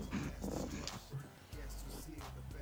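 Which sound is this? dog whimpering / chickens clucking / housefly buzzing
dog whimpering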